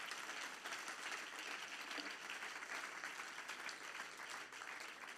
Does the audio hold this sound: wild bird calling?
no